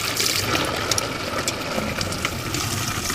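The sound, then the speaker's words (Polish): Water gushes steadily into an empty canister from a water delivery tanker in Wodzisław, a continuous splashing rush with a low engine rumble underneath and no voices. “pan tu widzę z pustym baniakiem.”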